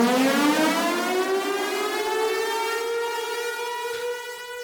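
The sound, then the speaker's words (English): A civil defense siren wails steadily, its tone rising slowly from low to high over several seconds, loud and sustained with no voices present. “So whenever you hear the siren, you know it's time for a Woke Alert.”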